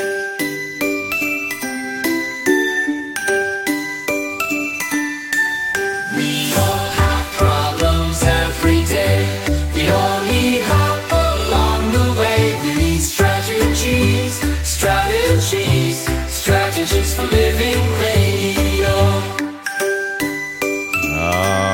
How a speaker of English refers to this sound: I hear the jingle bells there.